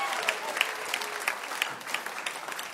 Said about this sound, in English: You showed to these artists that you are the best audience ever. Idea. That's right. Give yourselves a big applause.